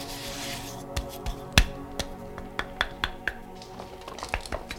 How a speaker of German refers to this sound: Vielleicht ein Hohlraum im Boden oder in den Wänden? Er kniete sich hin und klopfte alles ab.